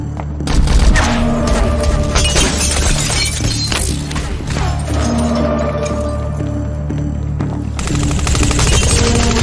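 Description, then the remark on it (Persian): Loud, sustained bursts of rapid machine gun fire crackle through a dense, chaotic din, with sharp repeated shots and booming impacts continuing almost without pause for the whole stretch. “چرا تیراندازی کردی؟”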